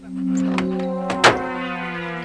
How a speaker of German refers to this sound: Öffnen Sie bitte auch Ihre Autotüren, Mr. Seeker. Aber selbstverständlich. Bitte sehr.